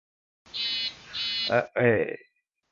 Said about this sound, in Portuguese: é o teu celular, velho? Meu quê? Tá vibrando? Que tá vibrando. Não, tem um celular vibrando. É isso que tá desconcentrando, velho.